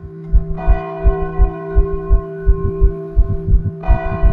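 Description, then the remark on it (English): Church bells ring in the morning for a mass after somebody was shot, a sustained, shimmering tone rich in overtones, while a steady low thudding pulse repeats underneath; the brighter peals swell at the start and again near the end. “And in the morning, if I didn't hear the gunshots at night, I would hear the bells ring.”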